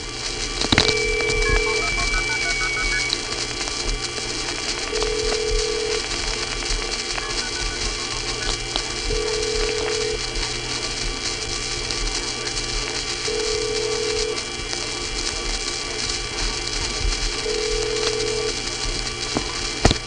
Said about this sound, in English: Now, the sound that sounded like a squealing teapot, which you heard before and will hear again, is a nearby trunk which goes into oscillation when it's about to receive a phone number, as it will in a second.